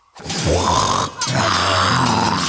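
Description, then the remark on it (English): A sea dragon's deep, rumbling snore, two long, loud, growling breaths with a brief pause between them, and no talking. “When Abi hears the sea dragon snoring, he starts fighting the dragon.”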